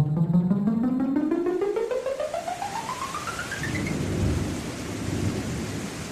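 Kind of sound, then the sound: nature, rainstorm with thunder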